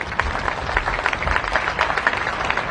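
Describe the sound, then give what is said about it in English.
An audience claps steadily, a dense wash of many hands with sharp individual claps standing out, loud and continuous throughout with no voices. “Now's the time to clap.”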